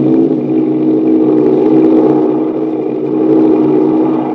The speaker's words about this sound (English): And there it goes. Speeding down the runway, the silver plane glides into the air. With keen-eyed Doc Ader, crack pilot of American Airlines, at the controls, starting the flight to New York.